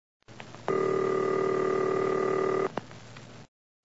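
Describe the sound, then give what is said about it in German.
A telephone line tone as an operator at a travel office puts a call through: one steady, buzzy tone holds for about two seconds over faint line hiss, then cuts off, followed by a soft click. “Ja, Augenblick bitte. Ich verbinde.”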